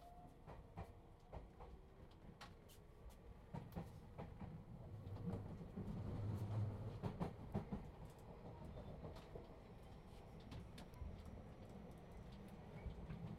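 Steady low rumble of a train moving on rails, heard from inside a carriage, with scattered sharp clacks from the wheels and a brief swell in loudness midway. No one speaks.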